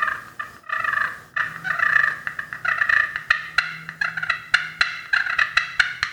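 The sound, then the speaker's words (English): A turkey call with an aluminum surface produces rolling, rattling purrs broken by sharp, clucking cuts, a loud series of quick staccato notes quickening toward the end, with no voices. “So that's the purrs, the cuts.”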